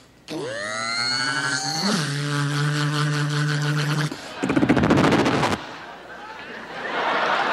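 Michael Winslow, at the Oscars, imitates with his voice a helicopter firing a rocket: a long buzzing, droning hum that shifts pitch, then a loud rapid rattling burst, fading into a breathy, hissing whoosh.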